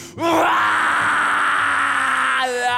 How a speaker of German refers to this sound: Die Menge hört ihn schreien.